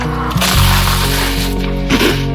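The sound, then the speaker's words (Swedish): Loud, crisp crunching as someone bites into Skogaholm Originalrost crispbread, with a few sharp crackling bursts over a low, steady tonal background. “ASMR, originalröst från Skogaholm. Hör ni grispet? Så himla satisfying.”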